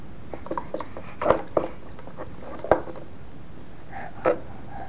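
A little boy slurps water from a dog bowl, with a handful of short, wet sucking and lapping noises at irregular intervals and quiet pauses between them.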